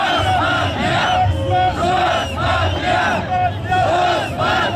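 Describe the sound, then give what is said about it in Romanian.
A large protest crowd, one of two protesting camps kept apart by several police cordons, chants in loud, rhythmic bursts, many voices rising and falling together in repeated phrases over a steady rumble of noise. “Cele două tabere protestatare au fost ținute la distanță de câteva cordoane de polițiști, iar oamenii legii nu au anunțat incidente majore.”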